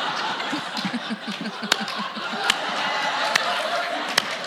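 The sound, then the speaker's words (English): A slow, awkward clap: four sharp, evenly spaced claps come slowly, about one every second, over a steady bed of murmuring and soft chuckling laughter. “You earned every second of that slow, awkward clap.”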